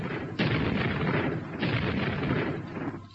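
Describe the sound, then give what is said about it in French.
Two heavy, booming blasts of video game weaponry, each a sudden loud onset followed by a long rumbling roar, the second fading out near the end. No voices. “Cela va de la hache au bazooka, en passant par le canon électrique et le lance-grenade.”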